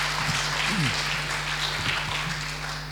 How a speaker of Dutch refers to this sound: Misschien kunnen jullie even staan. We willen jullie even verwelkomen met een warm applaus.